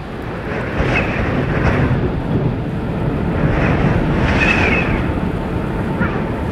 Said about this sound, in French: C'est arrivé très brutalement. Et en fait, c'est caractéristique de ces petites tempêtes. Qui par moments se lève très très brutalement, alors que voilà. Cet après-midi il faisait encore super beau.